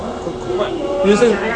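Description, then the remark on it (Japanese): Steady, dense rumble of a moving train leaving Tamade Station fills the space from inside a carriage, with faint voices murmuring underneath the constant noise. “電車の音ばっかりで聞こえない可能性は高いですけど、喋、ってます。”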